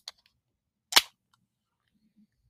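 A bottle of Babe Rosé sparkling wine pops open with one sharp, loud burst and a brief fizzing hiss trailing off, preceded by a faint click, with quiet around it and no talking.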